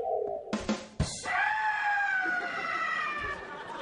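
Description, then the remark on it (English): After a couple of sharp clunks, a loud, high-pitched scream rings out from inside a freezer and holds steadily for several seconds, sounding slightly muffled. “There's an eye screaming in the freezer.”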